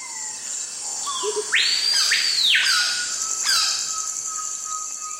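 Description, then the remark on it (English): Dense tropical rainforest ambience in the hot, humid Peruvian Amazon: several birds overlap with rising whistled calls and chirps over a steady high insect drone, moderately loud, with no voices. “Although a cacophony of bird calls surrounds you, it's hard to see even a single bird.”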